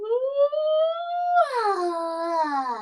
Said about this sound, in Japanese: あくびが出る。